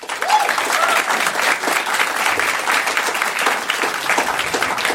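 A dense wash of audience applause for an audience member's question, many hands clapping steadily and loudly throughout, with faint voices mixed into the crowd noise.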